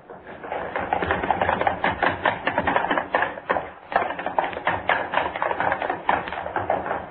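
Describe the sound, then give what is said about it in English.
A dense, rapid clatter of running footsteps from three people stomping across a studio floor and up stair steps, loud, continuous for several seconds with no talking. “I want running footsteps, all three of you. Across the studio floor, up the stair steps. You stomp and run back down.”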